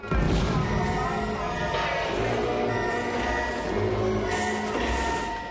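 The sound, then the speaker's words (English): Loud fireball explosions erupt around a bridge, booming and roaring in quick succession, with deep rumbling and bright bursts flaring up over a dense, continuous wall of noise, and no talking. “Fireball explosions erupt around the bridge.”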